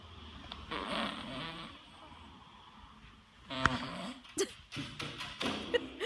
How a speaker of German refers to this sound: ich habe einen Kakadu gefunden, der wurde sogar beim Pupsen gefilmt.